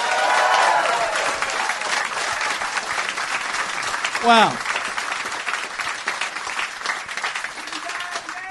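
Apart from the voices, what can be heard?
audience applause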